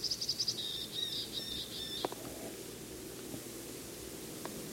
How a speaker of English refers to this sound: Just flew to another tree. Temperature's about 35 to 40. Sky is clear. Same bird and same tree. It's high up.